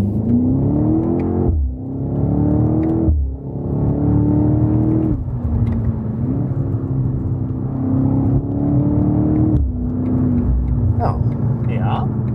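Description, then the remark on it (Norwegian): A car with a manual gearbox accelerates hard, its loud droning pitch climbing and then dropping sharply with each of about five quick gear changes as the driver short-shifts up through the gears. “Skal vi gi på litt skikkelig en gang?”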